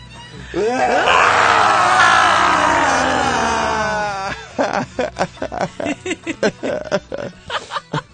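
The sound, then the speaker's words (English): Several people in a studio let out a loud, drawn-out Halloween group scream lasting a few seconds, which then dissolves into choppy, rhythmic bursts of laughter. “That was a pathetic scream.”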